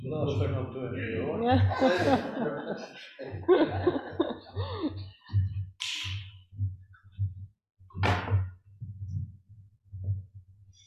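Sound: coughing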